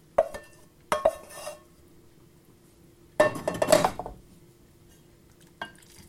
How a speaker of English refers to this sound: So, it's now more or less fluidless. And I'm going to tip that into my dish.